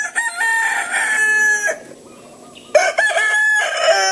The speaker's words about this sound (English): In a place where invasive species like iguanas abound, the most common of all, the chicken draws a lot of ire. They crow at all hours of the day and night.